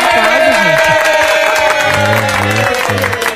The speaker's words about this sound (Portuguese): É meu querido companheiro de aventura. Quem? Quem é ele? Aplausos para o meu companheiro.